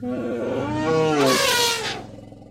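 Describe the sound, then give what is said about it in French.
A single loud elephant call, starting as a low rumbling, rising tone before breaking into a harsh, brassy trumpeting blast that fades out after about two seconds. “Ce soir, laissez-moi vous raconter l'histoire d'un éléphant majestueux.”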